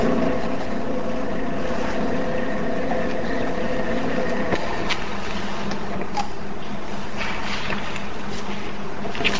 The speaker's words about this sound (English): You know you can lower the podium, right? Thank you.